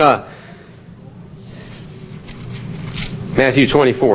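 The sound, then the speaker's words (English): Soft, scattered rustling of book pages being turned as listeners look up Matthew 24:19, a papery shuffle spread across the room, with a man's voice briefly at the start and again near the end. “Stop turning pages when I started talking.”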